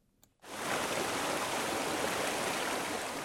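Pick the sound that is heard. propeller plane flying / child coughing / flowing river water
flowing river water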